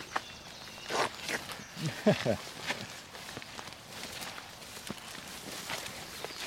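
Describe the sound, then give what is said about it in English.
Wellington boots squelch through waterlogged bog ground on a low, flat area at High Ash's bog, with water appearing underfoot, in an uneven series of soft, wet footsteps, moderately loud, with a brief murmur of voices partway through. “You can probably hear the squelching.”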